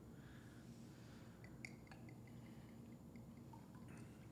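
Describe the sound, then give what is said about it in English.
A dessert drink is poured into glasses, a soft steady liquid trickle with a faint clink partway through, quiet with no one speaking. “I got glasses for us then, because you said you had some dessert drink for us to have.”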